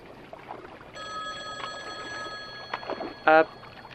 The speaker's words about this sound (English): the payphone, that's here for some reason. It's ringing.